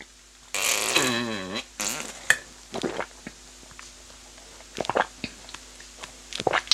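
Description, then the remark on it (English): Loud wet slurping of cashew nut milk from a carton, taken from the fridge in a kitchen: a long gurgling slurp with a wobbling, sliding pitch, then a second burst and a string of shorter sips, gulps and clicks. “sorry for the slurping noises it goes through. It's just because I'm drinking it from the carton”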